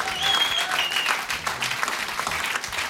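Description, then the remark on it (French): Sustained audience applause fills the whole stretch, a dense steady patter of many hands clapping at once, fairly loud, with a faint whistle or cheer rising briefly above it. “on peut les applaudir encore.”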